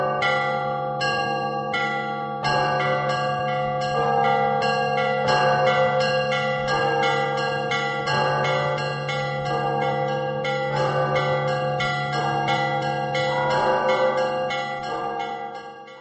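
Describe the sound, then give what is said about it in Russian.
Church bells ring out in a busy, festive trezvon peal, small bells chiming rapidly in overlapping rhythm over a deep, sustained low bell, loud and continuous with no voices. “основной звон, вот, который у каждого звонаря свой, это вот трезвон.”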